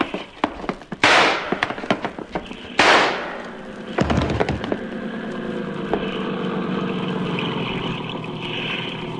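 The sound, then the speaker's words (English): Two loud, sharp gunshots fired by Yancey ring out less than two seconds apart, the first one missing, each trailing off with a brief echo, followed by a heavy thump and a steady low motor drone. “Yancey got two shots. The first one missed me.”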